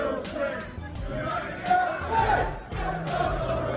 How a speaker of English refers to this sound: The area surrounding the entrance that the teams use have now been taken over by the assembled crowd.